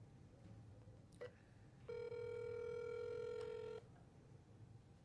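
A telephone line rings on an outgoing call: a short beep, then a single steady ringback tone lasting about two seconds, clear over a low background hum, with no one talking.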